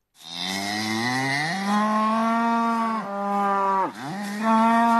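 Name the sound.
cow mooing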